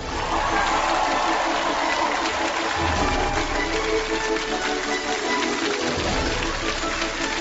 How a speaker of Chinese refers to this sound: 让我们掌声有请本期开讲嘉宾，敦煌研究院名誉院长樊锦诗，有请。